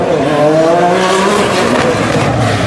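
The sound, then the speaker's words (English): A turbocharged V6 car with one big turbo roars down the street on a closed course at full throttle, engine pitch climbing in steady harmonic bands with a whooshing intake hiss, loud throughout with no voices. “And a nice V6 in there with a turbo, one big turbo. It's going down the street.”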